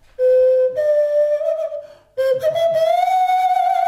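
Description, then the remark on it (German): A nose flute, which redirects the airflow from the nose into the mouth, plays two loud, breathy whistling phrases separated by a brief pause; the first holds a steady tone that steps up slightly, the second slides gradually upward in pitch. “Es ist eigentlich nicht mehr als eine Rutsche, durch die der Luftstrom aus der Nase in den Mund umgelenkt wird.”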